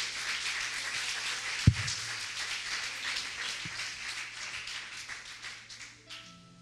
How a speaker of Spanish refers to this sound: Dile un fuerte aplauso al Señor en esta hermosa mañana. A ver, fuerte ese aplauso al Señor. A ver, más fuerte ese aplauso al Señor, más fuerte.